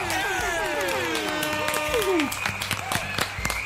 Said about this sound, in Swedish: Vi kör en applåd och lite tuta på det!